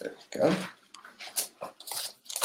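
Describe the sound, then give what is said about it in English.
Paper being handled, with a loud crinkling tear near the start followed by several shorter rustling bursts, uneven and scratchy, spread across a couple of seconds. “Do I not have any paper left?”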